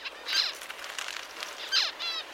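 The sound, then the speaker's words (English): A finch parent calls to its offspring in quick, high-pitched chirping bursts, a sound signal from the parents; two stronger sweeping notes stand out among softer rapid twitters, with no talking. “Scientists are still figuring out how exactly this sound signal from the parents ends up changing their offspring's development.”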